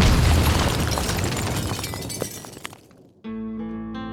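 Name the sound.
bomb explosion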